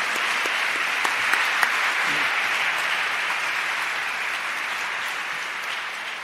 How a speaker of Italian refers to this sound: E con lui quelli là, quei signori là, quei giovani meravigliosi, un applausone anche a loro.